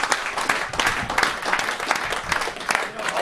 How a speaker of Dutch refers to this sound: Dus op een gegeven moment, ik zou toch een applaus willen vragen voor het bestuur en alle.